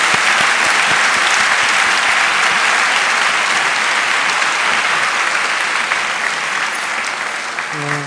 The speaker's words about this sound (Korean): 우리 뜨거운 박수로 다시 한번 하나님께만 영광입니다.